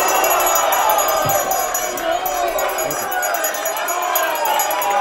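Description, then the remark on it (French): A dense, loud uproar of many voices shouting and yelling at once in a parliament chamber during a brawl after one deputy punched Jaurès at the tribune. Spectators in the galleries also trade insults. It is a continuous brawling clamor with no pause for the full stretch. “Brisson, qui depuis le début de l'ignoble bagarre agitait en vain sa sonnette, lève la séance. Mais les rixes continuent, les spectateurs des tribunes, après s'être fort divertis, s'injurient à leur tour et se courbent.”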